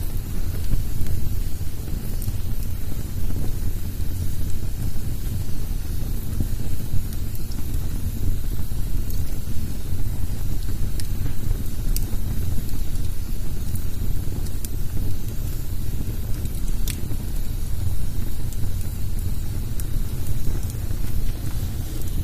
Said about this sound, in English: You can hear that log has steam in it, a little bit of moisture in it. You can hear the steam coming out of it.